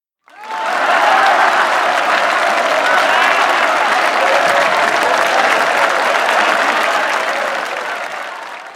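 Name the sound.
audience applauding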